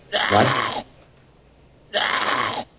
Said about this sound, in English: I think that was a sheep. It sounded like a sheep